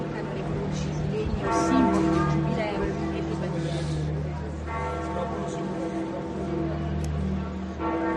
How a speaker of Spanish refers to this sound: Pues entre el bullicio de los periodistas y muchos peregrinos jóvenes, las campanas de la Basílica siguen doblando por la muerte del Papa.